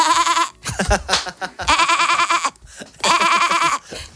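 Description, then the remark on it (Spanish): A woman, the program's producer, imitates a sheep, letting out three long, wavering bleats into the microphone, separated by brief breathy pauses. “¿Es una oveja o no es una oveja? Es una oveja produciendo un programa.”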